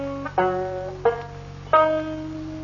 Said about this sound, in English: When I pick My Dog Has Fleas on the banjo like that